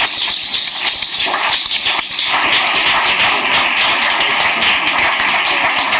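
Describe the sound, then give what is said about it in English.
An audience applauds panelists steadily for about six seconds, a loud, dense wash of many hands clapping at once with no voices over it, holding an even level throughout. “We give our panelists a round of applause.”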